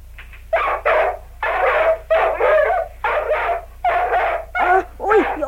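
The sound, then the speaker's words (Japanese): The dog Robo barks frantically in a rapid series of loud yelping barks, about eight bursts with short gaps, some rising into whiny yips, with no voices. “どうしたんだろうロボのやつ、気が狂ったみたいに吠えてら。”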